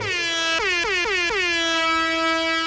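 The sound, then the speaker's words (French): A loud, sustained air horn blast with a rich, brassy tone, its pitch briefly dipping four times in quick succession before settling into a steady blare. No voices are heard. “Mollo sur la sirène?”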